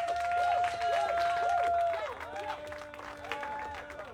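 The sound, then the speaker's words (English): An audience applauds a violinist with dense, steady clapping that stays loud for a few seconds before easing slightly, while a faint held tone and some wavering pitches sound underneath. “But okay, so look, please give your hearts and your applause right now”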